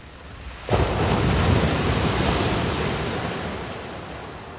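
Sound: ocean waves at sea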